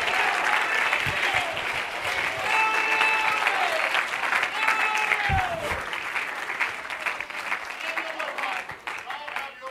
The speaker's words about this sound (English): If you know who he is, clap your hands and give him praise.